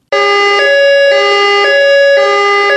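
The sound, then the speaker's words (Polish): A loud electronic police siren tone, the signal of the radio programme Policyjny sygnał made with the City Police Headquarters in Częstochowa, sounds alone, steady and harmonic, pulsing in short repeated cycles of about half a second throughout, continuous with no voices. “Policyjny sygnał, audycja, w której wraz z funkcjonariuszami Komendy Miejskiej Policji w Częstochowie informujemy, doradzamy i ostrzegamy, jak uniknąć różnych zagrożeń.”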